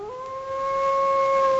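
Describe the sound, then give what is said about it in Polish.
A single drawn-out wolf howl, starting with a slight upward slide and then holding a steady, clear pitch, swelling a little louder as it goes on, with no voices around it. “To przyjaciel wilk.”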